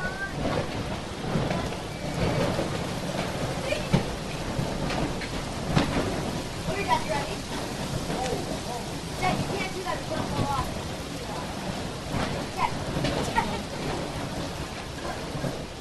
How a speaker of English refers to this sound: Yeah, just thunder showers, rain. Really? Probably the wettest June on record.